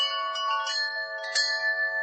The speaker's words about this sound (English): I chimed. What the hell was that? I chimed. That was me chiming in.